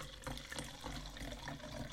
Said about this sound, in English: I don't know what you're supposed to pair with sushi, but we got this, like, Chardonnay. Yeah, we just decided to be fancy. So pretty. Let's hear pouring sounds. Let's see if we can hear them.